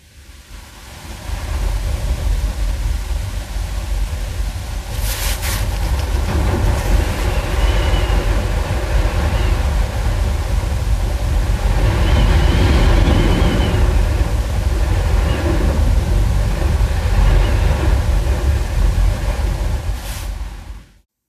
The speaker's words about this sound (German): Und ich habe versucht, aus unserem Zimmer diesen Wind aufzunehmen. Ein kleines bisschen kommt vielleicht gleich das Gefühl rüber, wie doll der Wind geweht hat. Kleine Brise kommt jetzt hineingeflogen.